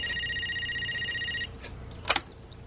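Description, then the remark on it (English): A telephone rings with a warbling electronic trill for about a second and a half, then stops, followed by a brief clatter like a handset being picked up. “Hey, could I use your guys' phone for a sec?”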